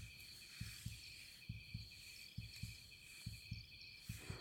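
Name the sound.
fast heartbeat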